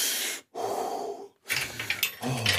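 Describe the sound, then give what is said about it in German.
Deep, slow calming breaths drawn in and pushed out by a person whose feet are stuck in the spokes of a wheel, three long airy breaths separated by brief silent pauses, with no talking. “Okay, ganz ruhig. Atmen.”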